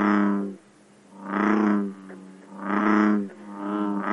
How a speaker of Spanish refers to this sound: Con ustedes, amigos que nos escuchan, la rana toro.